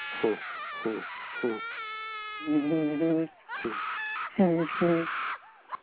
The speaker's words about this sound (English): Screaming going on in the background. Yeah, you hear this guy, right? That's loose. She's loose right now. Get loose.